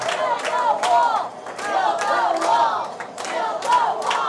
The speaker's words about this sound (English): The crowd listened intently to Trump's speech, erupting occasionally into familiar chants.